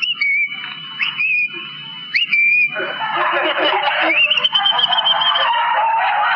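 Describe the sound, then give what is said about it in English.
Someone whistles an imitation of a thrush's song: clear, up-sweeping notes at first, then a busier, warbling stretch of trills. The whistle is fairly loud, with no speech. “Give me bird impressions. A thrush.”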